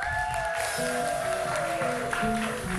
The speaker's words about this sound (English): Can you give an applause?